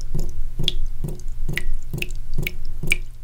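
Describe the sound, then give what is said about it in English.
Water dripping from a faucet in a slow, steady rhythm, about seven clear plinking drops less than half a second apart, distinct over a low background hum, with no voices. “It reflects the sun and melts off slow and steady, like a drip from a faucet.”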